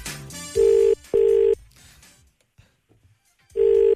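Outgoing phone call ringback tone: three loud, steady ring bursts, two close together then a pause before the third, with faint background murmur between them.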